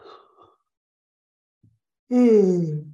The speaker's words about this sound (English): I'm going to yawn. If everyone, please, if you're listening to me as you drive and I yawn, don't let me influence you.